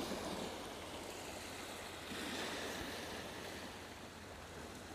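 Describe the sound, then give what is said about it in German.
Steady ocean surf on Boa Vista rolls and hisses continuously, a broad wash of waves at moderate loudness with a faint low rumble beneath and no voices. “Also sie haben dann mehr so Meeresrauschen gehört.”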